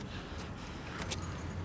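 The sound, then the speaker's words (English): A few brief metallic jingles of keys rattle near the end, faint over a steady low rumble like an idling vehicle, with no one talking. “Pick up your keys and go inside, yo.”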